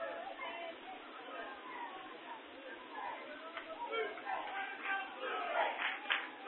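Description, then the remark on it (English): A baseball stadium crowd chants "Blue Jays" with the game tied 4-4 in the seventh inning, a dense, steady roar of many voices that swells louder and more rhythmic toward the end. “Crowd chanting Blue Jays.”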